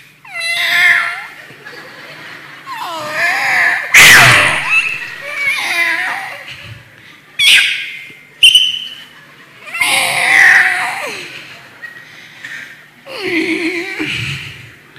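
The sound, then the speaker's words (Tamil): Cats yowl and caterwaul loudly, in a series of wavering, drawn-out screeches and cries with short gaps between them, and one sharp hissing burst partway through. “பூனைகள் புறம்பான இருளிலே தள்ளப்படும். அங்கிருந்து என்ன செய்வாங்க பிரதர்?”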